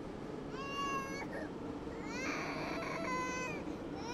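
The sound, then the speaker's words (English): A toddler wails in two long, drawn-out cries on a subway train, the second rising and stretching longer, over a steady low rumble of train noise. “Across the aisle, a mom wipes snot from her toddler's nose. Watching someone cry in public can be uncomfortable, but it's the perfect invitation to share your own pain.”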